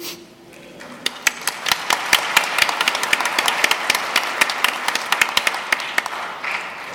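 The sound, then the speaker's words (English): A church audience breaks into applause during a homily, a steady wash of many hands clapping with sharp individual claps standing out, building quickly and holding for several seconds before tapering slightly. “And you guys give them applause for just standing up here.”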